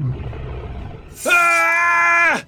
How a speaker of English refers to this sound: A huge, gaping mouth revealed yellowing teeth that were stained with blood. It opened even wider to let out a thunderous roar.